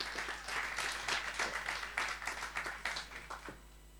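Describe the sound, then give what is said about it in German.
An audience applauds steadily for a few seconds to welcome three talk guests from the local community as they come forward, a dense patter of many hands clapping that tapers off slightly toward the end, with no voices standing out. “Mit einem Applaus, genau.”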